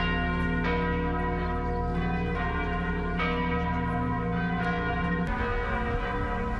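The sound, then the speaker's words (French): Large cathedral bells in France peal continuously, their deep overlapping tones ringing out loud and sustained, with fresh strikes every second or so and long resonant hum between them, rung on Wednesday 17 April to mark 48 hours since a fire began at a cathedral. “Responsable sonne cloche toute cathédrale en France, mercredi 17 avril là, pour te marquer 48 heures depuis que le feu a été commencé.”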